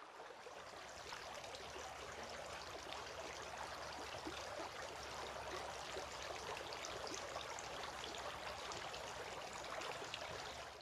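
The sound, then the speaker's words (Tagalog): Water pours and splashes steadily for about eleven seconds, a continuous trickle and spatter as water is poured over the hands and they are washed three times, with no voices. “Si Muhammad sa makanya ang kapayapaan ay nagbuhos ng tubig sa kanyang mga kamay at hinugasan ito ng 3 beses.”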